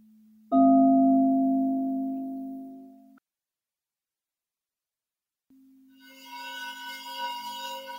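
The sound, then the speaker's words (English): A meditation bowl is struck once and rings out with shimmering overtones, slowly fading before a pause of silence; then a low, steady bowl tone swells back in with bright, wavering harmonics. “Listen to the silence in between words or in between the ringing of the bowls.”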